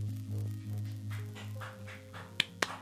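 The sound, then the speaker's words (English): Two sharp, crisp claps land close together near the end over a steady low electrical hum, after a few faint, soft pats. No one speaks. “There's clapping abound.”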